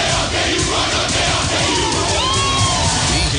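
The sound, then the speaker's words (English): A large Kansas State Wildcats football stadium crowd roars, chanting and cheering in a dense, continuous wall of voices, with scattered yells rising above the steady, loud din throughout. “Since 1886, it's been the two words we live by and the chant we live to cheer.”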